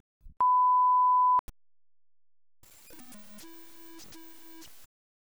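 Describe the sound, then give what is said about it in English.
Electronic test tones from an audio file that checks bit-perfect playback: a single loud, steady beep holds for about a second, then stops. After a short silence, a buzzier, harmonic electronic tone follows for a couple of seconds. “You will hear two tones with 45 seconds between them.”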